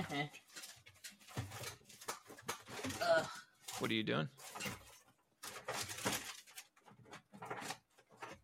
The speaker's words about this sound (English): Oh, careful, don't open that drawer in front of an audience.